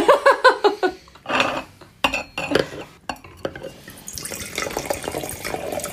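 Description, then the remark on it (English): Clinks and ringing taps of glassware, then a steady splashing gurgle as a rare wine is poured into a glass, with no one speaking. “So it even sounds different when it's poured.”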